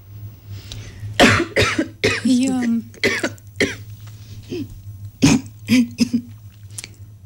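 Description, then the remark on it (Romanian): An interviewer coughs repeatedly after asking a question, in harsh, irregular bursts separated by short pauses and strained breaths and throat sounds, over a steady low hum. “Am încercat să formulez întrebarea foarte scurt pentru ca să pot tuși, însă se pare că m-a afectat mai tare.”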